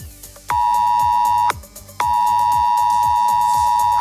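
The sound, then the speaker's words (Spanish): A loud, piercing Civil Protection emergency weather alert tone from mobile phones in the province of Barcelona, Spain, blares in sustained bursts, a steady high whine that cuts off briefly and resumes, over a background of music-like rhythmic sounds. “En la provincia de Barcelona ha sonado en los móviles la alerta meteorológica de Protección Civil.”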